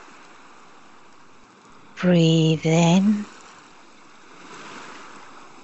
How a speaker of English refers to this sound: Listen to the sound of the waves.